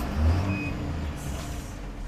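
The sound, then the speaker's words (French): A large diesel coach bus idles at a village square with a steady, deep engine rumble, plus a brief high tone early on. No one speaks. “Ça y est, on est arrivé sur la place du village, là. Il y a le car qui est déjà là.”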